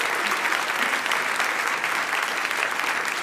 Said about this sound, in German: einen Applaus! Kommt in unsere Mitte. Kommt in unsere Mitte.